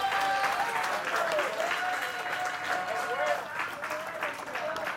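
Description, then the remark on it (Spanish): An audience claps steadily in sustained, dense applause for the Lord during a Spanish-language sermon, filling the whole moment, with a faint voice or sustained tone drifting underneath the crackle of many hands. “¿Cuántos pueden darle un aplauso al Señor en esta hora?”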